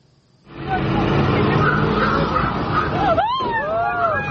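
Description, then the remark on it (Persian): A heavy armored vehicle roars in loud in Kyiv, Ukraine, on 25 February, running over a 53-year-old man's car amid a dense grinding rumble, with shrill rising shouts or screeches breaking through near the end. “روز 25 فوریه ماشین زیره پوش در کیف ماشین مردی 53 ساله را یک بار زیر کرد.”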